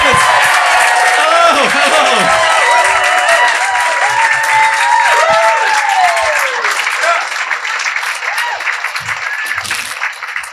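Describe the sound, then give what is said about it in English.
An audience at the Melbourne International Comedy Festival applauds loudly and steadily for about ten seconds as performers are welcomed to the stage, with cheers and whoops rising over the dense clapping before it thins slightly toward the end. “Would you please, well, I was going to say keep the applause going, but now start the applause and welcome to the stage,”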